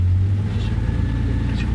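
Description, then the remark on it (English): A truck engine revs hard, a heavy, steady low rumble that strains continuously throughout the short clip as its wheels are stuck in sand, with no voices. “And stuck in the sand. All you have to do is to make the wheel straight.”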